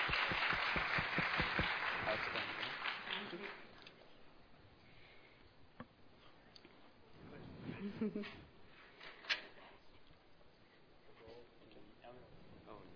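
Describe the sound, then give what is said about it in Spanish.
An audience breaks into loud, dense clapping for two young volunteers called to the front, fading out over the first few seconds, followed by quieter murmuring and voices. “Un buen aplauso para estos muchachos, por favor.”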